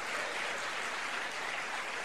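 Steady audience applause, a dense wash of many hands clapping at once, sustained at an even level for the whole couple of seconds with no voices breaking through.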